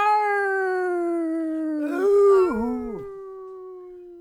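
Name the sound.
dog howling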